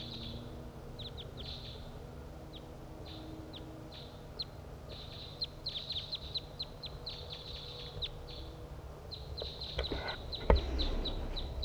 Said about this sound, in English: One, two wild crossbills flying from north to south along the ridgetop, and one has perched in the tree nearby.